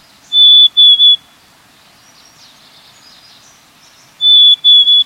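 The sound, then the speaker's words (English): A black-capped chickadee sings its soft fee-bee spring song twice, a vocalization added in spring, each phrase a clear, pure whistle that drops slightly in pitch, separated by a few seconds of quiet background hiss. “In spring, however, black-capped chickadees add a new vocalization to their repertoire, this soft phoebe-b.”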